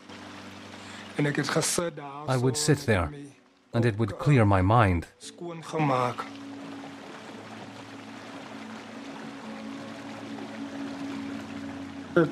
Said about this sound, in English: I would run to the river and sit and find peace. He sits on a rock in the river, watching the water flow.